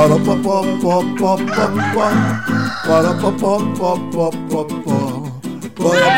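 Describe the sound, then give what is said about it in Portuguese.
A voice imitates a chicken's clucking in quick, choppy bursts, loud, set against a dense, continuous musical backing, as part of a chicken dance. “É a dança da galinha.”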